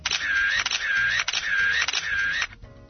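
A camera shutter clicks in a quick repeating burst at an exhibition in front of the Military Museum on Republic Square, a few sharp mechanical snaps with a whirring tone between them, fairly loud, then stopping abruptly with no voices.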